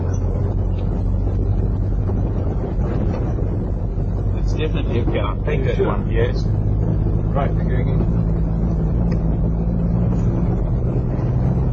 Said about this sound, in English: where it was possible to drive at 50 miles an hour without breaking the truck into pieces